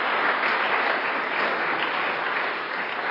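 An audience claps steadily for about three seconds as applause and encouragement for two people, a dense, even wash of many hands with no pauses and no voices breaking through.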